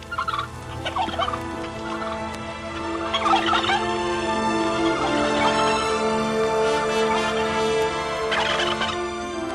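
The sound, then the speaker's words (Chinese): A flock of turkeys on a pasture gobbling continuously, several birds calling over one another in bursty, warbling rattles, fairly loud and steady throughout, with no voices present. “第一件要办的事情就是快上牧场去照料火鸡们，特别是那个瘦小的风铃。”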